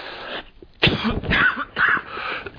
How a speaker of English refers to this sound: Excuse me, Philippians chapter 3. Excuse me, still working on this cough. In fact, this is the second time around.